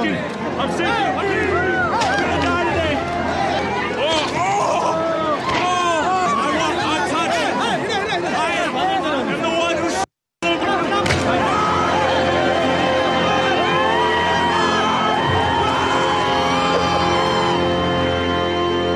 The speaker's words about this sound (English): That's me at a poop-throwing festival in India, where the villagers spend 6 months collecting cow poop and celebrate the end of Diwali by throwing it at each other and rubbing it on their skin.